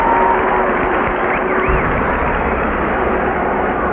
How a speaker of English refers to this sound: I told you, if the Seals get a penalty, and we expected it, watch out. And they do. Hextall had a breakaway, too. Listen to the crowd.